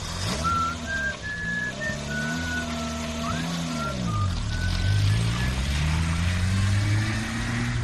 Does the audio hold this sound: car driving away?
yes